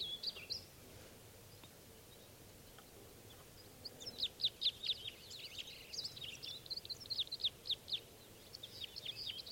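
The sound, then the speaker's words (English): About three birds sing in spruce trees near a net setup, in quick runs of high, bright chirps, faint at first and then a steady string of repeated notes over a low background hum, with no voices. “About three of them are still here in the spruces near the net setup.”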